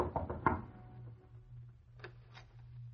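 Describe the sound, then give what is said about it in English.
A quick cluster of four sharp knocks on the door of a small apartment on Water Street, fairly loud, followed by a low steady hum and a couple of faint soft rustles. “knocked on the door of Joe Banning's small apartment on Water Street.”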